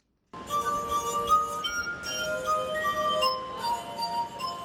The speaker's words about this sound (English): He uses his fingertips to rub the rim of the glasses to create a range of musical tones. VOA's Deborah Block watched Turner play the glass harp in Alexandria, Virginia, where people seemed to be awestruck by the sounds he created.